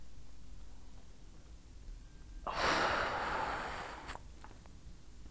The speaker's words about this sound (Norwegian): Ok, da prøver vi. Pust godt inn med nesa. Og hold pust.